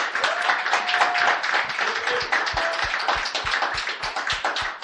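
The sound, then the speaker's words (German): A crowd applauds steadily for the whole stretch, dense clapping, with a regular low thumping beat joining in partway through and a couple of faint whistles. “Geben wir doch einen Applaus.”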